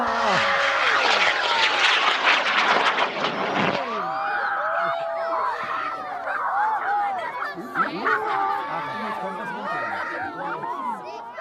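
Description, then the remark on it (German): A model rocket launches after a 15-second countdown, with a loud, hissing roar that lasts about four seconds and cuts off sharply, followed by a crowd of people chattering and calling out excitedly. “15, 14, 13, 12, 11, 10, 9, 8, 7, 6, 5, 4, 3, 2, 1, Ignition!”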